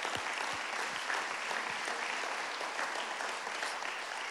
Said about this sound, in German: Wie wär's, wenn wir dem Campus in Aachen mal einen großen Applaus geben heute Morgen? So schön, dass ihr am Start seid.